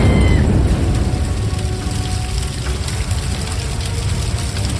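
A car explosion erupts into a loud, deep roaring rumble that stays heavy and unbroken for several seconds, with a rough crackling hiss layered on top and no voices.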